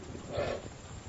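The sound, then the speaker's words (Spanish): A deep, rough grunt from a bison during the late-summer rut on the north rim of the canyon swells and fades within about a second, a breathy low rumbling snort, with steady background noise and no talking. “Hay muchos jadeos y resoplidos,”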